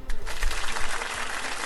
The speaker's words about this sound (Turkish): Peki, seni alkışlayalım.